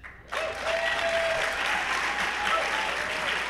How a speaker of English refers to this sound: We are here live at the Garneau Theatre for Edmonton Litfest. Thank you very much. Please, a warm round of applause for our panel.